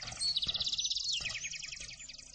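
A flock of sparrows swooping down from the sky chirps rapidly and continuously as they peck rice grains and set them aside, their high, overlapping tweets forming a steady, busy chatter that stays even in volume throughout, with no voices.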